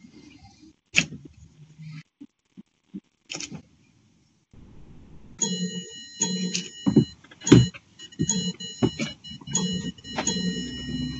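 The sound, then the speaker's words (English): Councillor Whelan's clock chimes seven o'clock during a meeting, a series of ringing strikes with a sustained metallic tone, after a few scattered clicks and knocks earlier on, and no voices speaking. “do you agree with Councillor Whelan's clock that it's 7 o'clock?”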